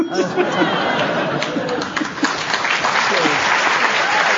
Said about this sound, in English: Yes, you deserve that round of applause.